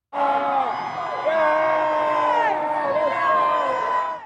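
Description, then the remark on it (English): A dense crowd of UCLA fans screams and cheers continuously around the Bruins women's basketball team returning to campus with its championship trophy, many overlapping high-pitched voices whooping and shrieking at full volume for several seconds, loud throughout. “The team returned to campus, trophy in hand, surrounded by screaming fans.”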